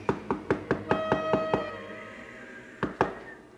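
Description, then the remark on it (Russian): A quick run of about eight firm knocks on a heavy castle door, a short pause, then two more knocks, with a faint sustained ringing tone underneath and no voices. “Подошел к замку, постучался.”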